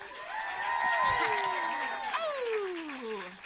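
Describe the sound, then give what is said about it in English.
An audience at a live show at the New York Comedy Festival, on an East Coast tour date, claps steadily for a few seconds, a dense wash of applause mixed with loud whoops and cheering voices that rise and fall in pitch before easing off. “So just a quick clap it up if you listened to the Bechdel Cast before.”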